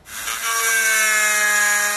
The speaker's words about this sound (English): It's a drill. Oh, my God. Yeah. He has to be very careful not to hit the bone because then we'll draw blood. So he's going just that very carefully, 16th of an inch into the shell.